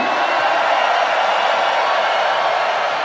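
A large festival crowd at Tomorrowland, hands raised, screams together on a count of three in one loud, sustained roar that holds steady for about three seconds, with no distinct voices standing out from the mass of sound.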